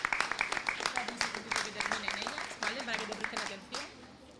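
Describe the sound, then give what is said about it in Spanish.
A crowd applauds steadily for several seconds, the clapping dense, while voices talk over it before the applause thins out near the end; an audience welcoming a student of the Fundación Cepain who is about to read a poem. “Vamos a darle un aplauso y agradecerle que quiera participar también esta mañana.”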